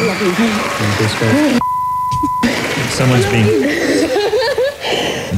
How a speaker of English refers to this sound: Okay. I think the beeps start almost immediately.